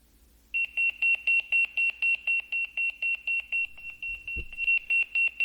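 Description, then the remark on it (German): A Motorola Pageboy 2 pager, set as an alarm clock, beeps in a fast, steady train of short high-pitched pulses, loud, continuing for several seconds with a brief soft thump near the end and no talking. “Voilà, das tote Wertgereich vom Motorola Pageboy 2. Und Motorola Pageboy 2 hat einfach gepiepst.”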